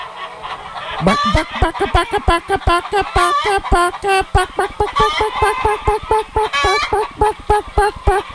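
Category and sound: bird, chickens clucking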